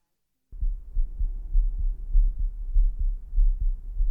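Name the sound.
heartbeat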